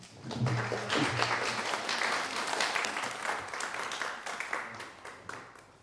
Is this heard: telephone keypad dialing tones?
no